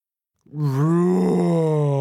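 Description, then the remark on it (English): After a brief silence, a human voice imitates the roar of Rex, a big dinosaur in a story: one loud, sustained, low groaning tone that holds steady for over a second and a half without any words. “Rex opens his mouth and roars. It is a very big roar.”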